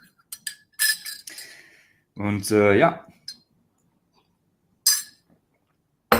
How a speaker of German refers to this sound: Ich trinke hier mal ein bisschen von meinem Ingwertee, der viel zu stark ist, viel zu scharf.